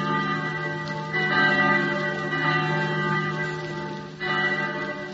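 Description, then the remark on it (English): Bells ring together in a dense, sustained peal, celebrating the Declaration of Independence, their overlapping tones swelling louder at moments and never falling silent. No voices can be heard over the continuous clangor. “And everywhere, by the ringing of bells.”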